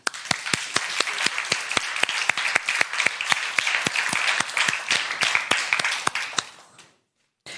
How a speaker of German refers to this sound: Und zwar das Projekt CCCTV. Und wir begrüßen mit einem tosenden Applaus auf der Bühne